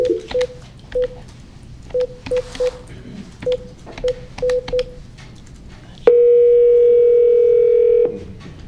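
A rapid series of short electronic touch-tone beeps as a number is dialed, followed by a steady, loud telephone tone held for about two seconds, as a veterinary board places a phone call to a veterinarian. No one speaks.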